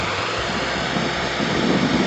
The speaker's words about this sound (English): The engine just roars and can't hear me?